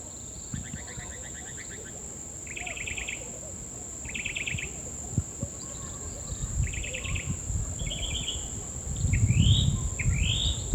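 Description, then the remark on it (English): Short bursts of high, buzzy chip calls from a black mango hummingbird, chipping each time it moves while hovering, repeat every second or two, ending with a couple of rising chirps, over a steady insect whine and low rumbling background noise. “You chip every time it moves.”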